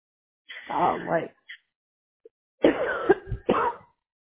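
Someone coughs: one long, harsh cough, a brief pause, then a quick cluster of two or three more rough coughs, loud and throaty.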